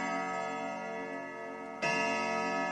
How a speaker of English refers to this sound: to the grandfather clock inside